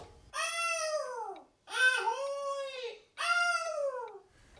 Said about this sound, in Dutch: Dat was een meeuw.